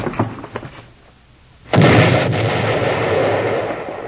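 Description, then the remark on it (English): A few sharp knocks, a brief lull, then a sudden loud blast from dynamite sticks with a short fuse that erupts into a long, roaring rumble of debris lasting several seconds. “Dynamite sticks with a short fuse.”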